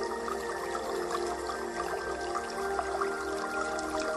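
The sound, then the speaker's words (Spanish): Water flows steadily and continuously with a soft, even rushing and trickling texture, unchanging throughout, with no voices. “Con la atención en el agua, si nos despistamos, es una meditación de atención.”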